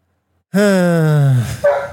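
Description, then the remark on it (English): A puppy lets out one loud, drawn-out bark, its pitch sliding downward, followed by a shorter, higher yip as it trails off. “My puppy just started barking at me.”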